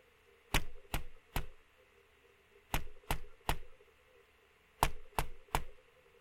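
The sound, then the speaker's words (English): Sharp, loud knocks come in three quick groups of three taps each, separated by short pauses, heard on their own over a faint steady hum. “Did you hear that? But it was so loud. Tap, tap, tap.”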